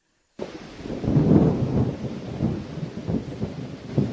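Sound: thunderstorm with heavy rain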